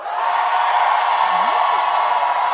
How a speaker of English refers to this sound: So, if you think Jim John was killed by the players, go ahead and cheer. Okay. Why would you cheer for that? You're monsters. Sick.